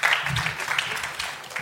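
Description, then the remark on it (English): Tepid applause from an audience greeting a prize winner, a thin, steady patter of scattered hand claps with no strong build or cheering, lasting under two seconds. “The tepid applause that greets”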